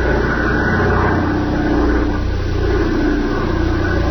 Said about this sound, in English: A bright moon that stripped the river of shadows and made it a clear field of vision for a plane flying above.